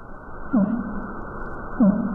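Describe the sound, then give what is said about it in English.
Two low, downsweeping fin whale pulses roughly 1.3 seconds apart, each a short tonal sweep dropping into a deep hum, heard over steady underwater background noise in the eastern North Atlantic, recorded by the SOSUS hydrophone system, with no voices. “Here's a eastern North Atlantic here, the fin whale. You can hear the low pulses here, usually nearly inaudible to the human ear, recorded by Sosus here.”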